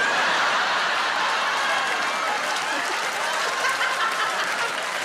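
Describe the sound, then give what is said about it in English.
A live audience in a theatre applauds and cheers steadily for several seconds, with a woman seated in the grand circle cheering out of the dense, even wash of clapping and a little laughter. “I love that there's a lady cheering that I've just implied that she's from the felon, because you're clearly from the felon, yeah!”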